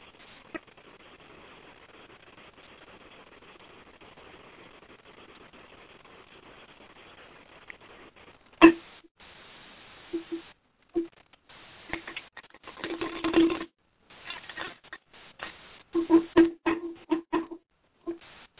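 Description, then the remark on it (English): Cards being shuffled: after several seconds of near silence, soft papery flutters, taps and riffling bursts come in irregular clusters, with no one talking. “Okay, I'm shuffling.”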